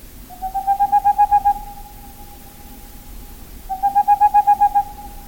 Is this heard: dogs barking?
no